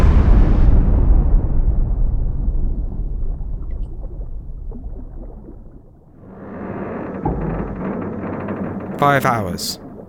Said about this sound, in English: Frightened and confused, Vasily Arkhipov and Venetin Savitsky have heard nothing from Mother Russia. Explosions are happening around them, and they are running out of time.